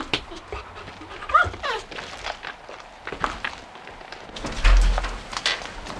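A dog pants rapidly, its breathy huffs interspersed with soft whimpers and the shuffle of paws moving about.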